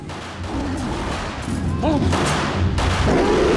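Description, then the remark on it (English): Gunshots ring out at a fairground shooting alley, where people wearing ear protectors shoot at animal pictures, including gorillas. A couple of sharp bursts cut through a steady wash of crowd chatter and low rumbling background noise. “Joe wanders up to a shooting alley where people wearing ear protectors are shooting at animal pictures, including gorillas.”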